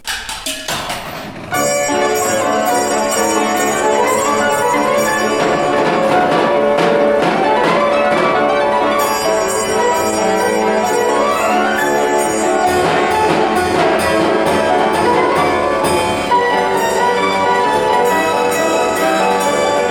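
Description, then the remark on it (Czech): A coin-operated orchestrion, a weight-driven mechanical music automaton richly decorated with Art Nouveau motifs, plays a bright, busy melody after a brief quiet start, with ringing bell-like tones and steady rhythmic accompaniment, loud and continuous with no voices. “No a potom už můžeme vhodit minci a poslechnout si některou z krásných skladeb, které hraje.”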